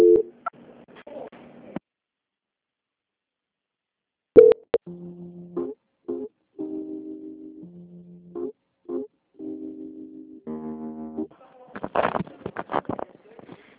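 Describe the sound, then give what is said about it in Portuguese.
Steady electronic telephone line tones play in an on-off pattern while a bank call is transferred to quality control, shifting between a few pitches, after a brief voice and a click, with talking resuming at the end. “A linha vai ficar muda por um minutinho.”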